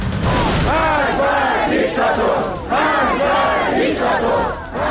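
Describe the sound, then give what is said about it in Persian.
A large crowd at an anti-government protest in Iran on a Friday evening chants loudly in unison, many voices rising and falling together in rhythmic shouted phrases that repeat steadily, with a brief dip in volume between chants. “کشیده شدن دامنه اعتراضات به شهرهای بیشتری در ایران، از خوی تا بندر دیر، از آذرشهر تا خاش، شامگاه جمعه تظاهرات گسترده ضد حکومتی برگزار شد.”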